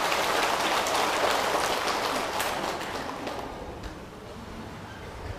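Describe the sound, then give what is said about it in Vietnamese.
A crowd gives a loud, dense round of applause, many hands clapping in a steady wash that gradually thins and fades toward the end. No one speaks. “Nếu quý vị hài lòng với hai điều nêu trên thì hãy cho một tràng vỗ tay thật lớn để cam kết làm.”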